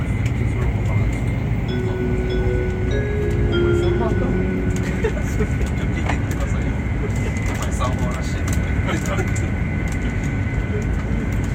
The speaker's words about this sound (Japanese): 新幹線をご利用くださいましてありがとうございます。この電車は50号東京行きです。途中の停車駅が新横浜と品川です。この電車は全席禁煙となります。